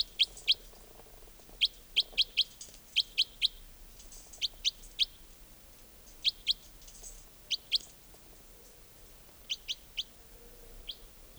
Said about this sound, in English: I mean, they may have all taken off completely, but I've got a feeling there might be a bird or two nearby. Yeah, I think I see one or two up in the top of the larches here. Could be that the whole flock stopped.